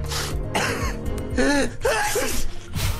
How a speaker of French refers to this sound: Eh oui, atchoum. Car l'automne, bientôt... C'est un virus, hein, le rhume.